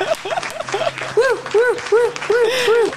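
A loud burst of applause-like noise runs throughout, overlaid by a steady series of rising-and-falling whooping tones repeating about every half second, giving it a comical, novelty sound-effect feel.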